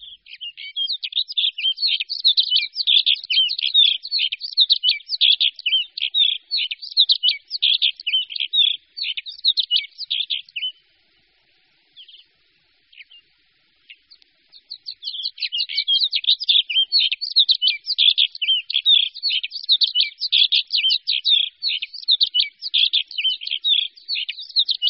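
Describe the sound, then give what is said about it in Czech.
An Alpine accentor sings a long, rapid, warbling twitter, clear, breaking off briefly partway through before resuming just as busily; no voices or other sounds. “Pěvuška podhorní.”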